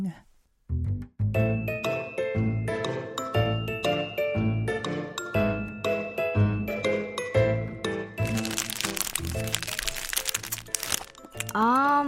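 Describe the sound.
Noisy crunching of a snack being eaten, with crinkly bursts over a few seconds, set against a steady tonal background and followed by a brief voice at the end.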